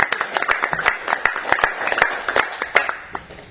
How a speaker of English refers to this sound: The Caring for Country Award was presented to the Kakula Aboriginal Corporation, and the Community Service Group Award was presented to Mingle Mob. How about a big round of applause for our NATO?